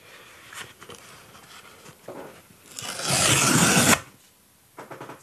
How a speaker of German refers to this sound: Das klang, als ob du Klebeband von einem Paket oder sowas gelöst hast.